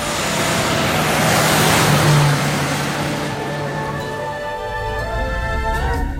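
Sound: jeep engine running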